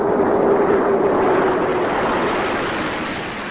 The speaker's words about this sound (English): Discovery, sounding like any other airplane, glided smoothly onto a runway at Kennedy Space Center.